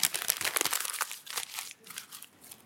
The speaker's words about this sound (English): And they crumple it up in front of you.